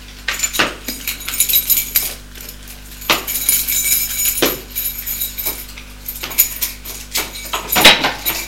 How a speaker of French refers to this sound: Elle va ouvrir la porte de son appartement.